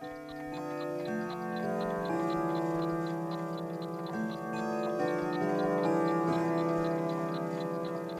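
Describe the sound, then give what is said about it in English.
A clock ticks in a quick, steady rhythm throughout, its crisp ticks sitting over sustained, resonant tones that drift slowly in pitch. No one speaks. “I want you to see this clock.”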